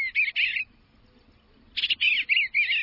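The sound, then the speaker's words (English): Bright bird song in spring in two bursts: a quick run of high chirps, a short pause of near silence, then a longer stretch of rapid, warbling notes, with no talking. “The birds and spring are coming back.”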